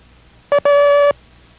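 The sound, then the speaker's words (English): The Morse code letter A ("Abel") sent as a steady mid-pitched tone: one short beep followed by one long beep, a dot then a dash, loud and clear with silence around it. “You see, in this group of characters, we have a combination of dots and dashes, where in the previous groups, there were either all dots making up the characters, or dis, as we refer to them by sound, or dashes, or das”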